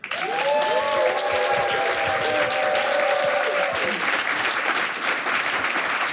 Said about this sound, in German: Bitte begrüßen Sie mit einem frenetischen, herzlichen Applaus die 4 Kater von ….